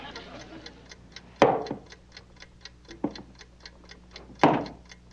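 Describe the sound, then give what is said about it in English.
A timer ticks steadily at a quick, even pace while a person is being timed on a test, a light crisp tick repeating throughout, with a few louder brief bursts of noise breaking in over it. “Does that thing have to be ticking? I can't think with that thing ticking. But that's the timer.”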